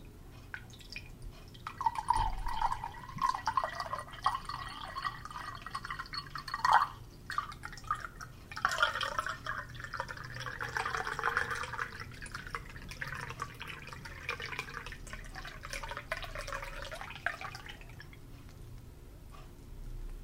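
About three-quarters of a pound of water pours steadily from a bottle into a glass for about fifteen seconds, a bubbling gurgle whose pitch wavers and rises as the glass fills, with a few sharper splashes along the way.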